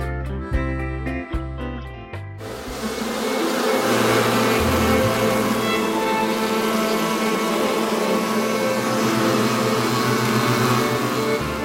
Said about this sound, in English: This bee sound and soundtrack behind me there